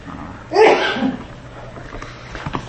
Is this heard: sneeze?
yes